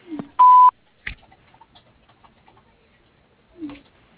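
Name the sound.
voicemail beep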